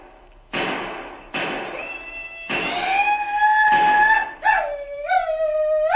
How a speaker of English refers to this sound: Looks from here as if your cattle are being stampeded, Colonel. That was a Sioux war whoop if ever I heard one.